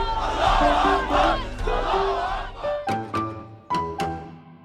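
A large crowd in Tahrir Square, Cairo, Egypt, roars and chants the word freedom in unison while waving flags after Mubarak is deposed; dense voices swell in rhythmic waves, then give way to sharp, separate shouted bursts toward the end.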